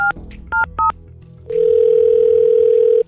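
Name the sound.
phone call being placed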